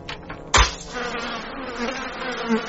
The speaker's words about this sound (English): Those two flies, they reproduced and now there's thousands of them.